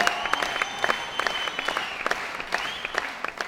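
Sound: hearty applause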